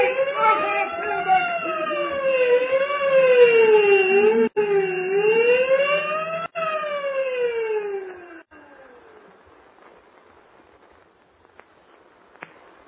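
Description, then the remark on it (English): A loud wailing prison alarm sounds for a prisoner escape, rising and falling in repeated sweeps for about eight seconds. It briefly cuts out twice, then stops, leaving faint background noise with a couple of small clicks. “Ring the alarm bell.”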